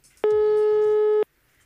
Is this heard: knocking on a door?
no